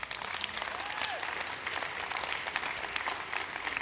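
A few audience members give a modest round of polite clapping, a steady patter of hand claps lasting a few seconds at a fairly low, even level, with no voices standing out.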